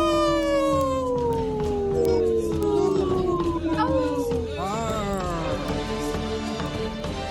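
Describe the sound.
A person mimics a wolf howl on the Native Roots Radio show: a long, loud, sustained wail that slides slowly downward, then a second rising howl follows, with no other talking.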